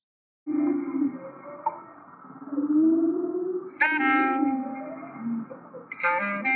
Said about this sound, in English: I wanted to play music along with humpback whales. The easiest place to do that is in Hawaii because the waters are very calm. They just would sort of hang around there during the winter mating and breeding season. They'd be singing for hours on end